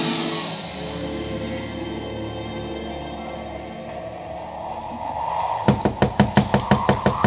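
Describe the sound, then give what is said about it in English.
After several seconds of a low, sustained droning wind, someone knocks on the door of a boarding house: a rapid, steady series of about ten loud knocks with no one speaking. “Knock again.”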